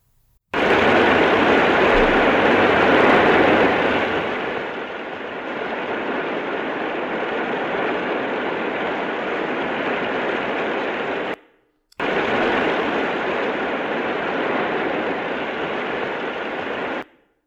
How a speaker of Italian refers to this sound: Quasi la stessa pioggia, ma non esattamente la stessa. È la pioggia che si ascolta cadere in quello splendido film di Kurosawa, Rashomon, del 1950, che per me è uno dei film più belli che siano stati realizzati.